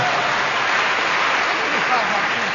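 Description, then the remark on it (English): A steady round of applause from an audience, many hands clapping in a dense, even wash that holds at a constant level throughout, with faint voices murmuring underneath. “That, yeah, I think that deserves a round of applause.”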